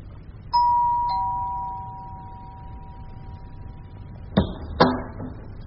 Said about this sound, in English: He went to Bill's flat and rang the doorbell.